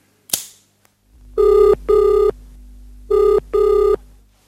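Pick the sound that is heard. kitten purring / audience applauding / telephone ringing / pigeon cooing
telephone ringing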